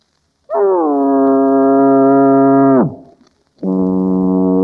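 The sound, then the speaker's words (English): A voice imitates a foghorn with a long, loud, buzzing low blast that sags downward at the end, then, after a short gap, starts a second steady blast at a slightly lower pitch. “I feel a foghorn coming on. Okay, folks, a foghorn.”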